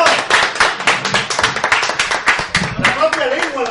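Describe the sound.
An audience breaks into applause for a volunteer called up to explain what a neuropeptide is: a dense, steady patter of many overlapping hand claps, fairly loud throughout, with a few voices calling out beneath it toward the end.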